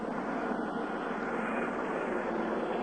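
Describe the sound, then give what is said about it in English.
Helicopter number 66 hovers about 30 feet above an aircraft carrier's flight deck, off the port side, swinging sideways in to land. Its engine and rotors make a loud, steady, dense roar that holds without a break for the whole stretch, with no voices. “Number 66 coming in very carefully. It's now about 30 feet above the flight deck and off the port.”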